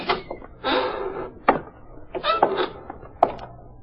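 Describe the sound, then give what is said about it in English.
A warehouse side door is pushed open with a few sharp knocks and rattling clatter, moderately loud, spread unevenly over a few seconds with no voices. “The side door is open.”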